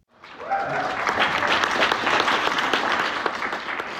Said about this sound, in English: That was a crowd of progressive voters applauding State Senator Nate Bluen for his criticism on the Epstein fallout.